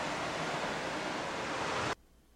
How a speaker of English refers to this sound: So this cave is, the caves are inside. The caves have waterfalls that fall into them.